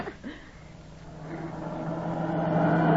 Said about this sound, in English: Hey, look at those cars whiz by.